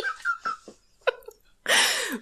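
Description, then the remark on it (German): A person chokes while breathing in: a few short, strained gasps and a sharp catch, then a long, harsh, noisy breath or cough. “Ich habe mich gerade beim Einatmen verschluckt.”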